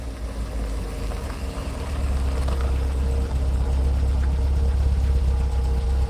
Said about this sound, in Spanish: Mi mamá me cuenta que ella ya se estaba quedando dormida cuando de repente, a lo lejos se escuchó el sonido del motor del carro de mi papá.